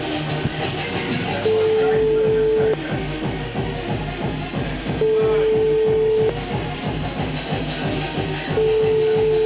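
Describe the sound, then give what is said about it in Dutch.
A phone ringing tone, from a call placed to someone at a bar, repeats three times: steady, mid-pitched tones about a second long separated by pauses of two seconds, over continuous rumbling, clattering background noise. “Hij gaat wel lang over.”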